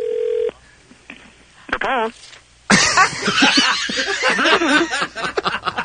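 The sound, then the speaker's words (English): A steady telephone tone sounds for half a second as a phone call is placed, followed by a few short beeps and faint line noise, then loud laughter and lively voices take over. “we're going to make one more call, and if this one doesn't answer, if we don't get somebody on the phone”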